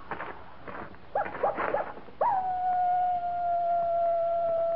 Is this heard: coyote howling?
yes